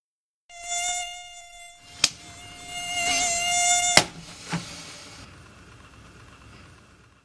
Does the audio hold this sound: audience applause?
no